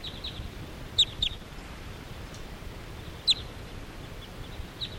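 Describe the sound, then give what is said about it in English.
Crossbills give a few sharp, high-pitched kip calls as the flock flies off, scattered singly and in a quick pair over a steady low hiss, with no voices. “And meanwhile, all these crossbills are hanging around this area, but they're not all that interested in going down to the decoys.”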